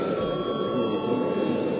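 parliament session bell

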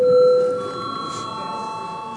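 parliament session bell ringing

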